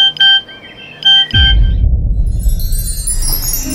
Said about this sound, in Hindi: तभी उसके मोबाइल पर एक मैसेज आया।